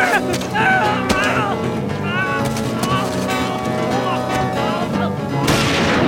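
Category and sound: sound effect, gunshot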